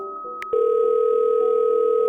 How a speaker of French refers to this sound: Alors, beauté d'Internet, j'ai trouvé sur YouTube le bruit que faisait un modem 300 baud quand il se connectait à un BBS.